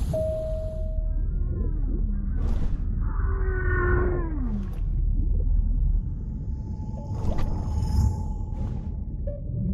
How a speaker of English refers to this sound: Dolphins!